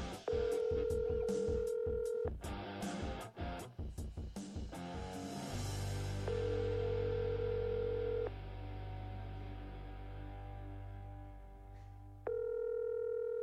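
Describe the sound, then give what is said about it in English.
A phone call to a show's LA Chargers sports correspondent rings out with no answer: three steady ringback tones, each about two seconds long with long pauses between, over a low rumbling hum after a burst of busy sound at the start. “Well, we're 1 for 3 today with people picking up their phones, so that's great.”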